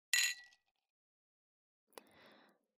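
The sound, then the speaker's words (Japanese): Glasses of a lime drink clink together in a toast with one bright, ringing chime that fades quickly. A softer tap follows later, trailed by a faint, brief rustling noise. No one speaks. “乾杯するために隣まで来たのに。さ、あなたもグラスを持って。”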